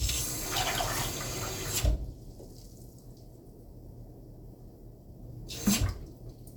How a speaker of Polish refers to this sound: Teraz sobie naleję wody, żeby była ciepła, bo to jest potrzebna dobrze ciepła woda. O, teraz sobie nalejemy wody.